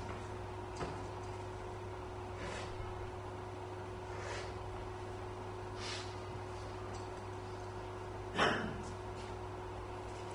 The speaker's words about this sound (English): I'm just going to blow my nose because it's irritating me, let alone anyone else.